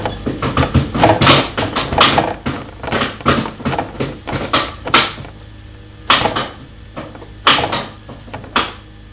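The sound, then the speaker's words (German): A chair clatters and bangs about in a rapid burst of knocks and thuds, then a few scattered louder clunks follow after a pause, with no talking. “Klapper die Bums. Mach nicht noch was kaputt, bitte. Weil wir den Stuhl zurückgeben müssen.”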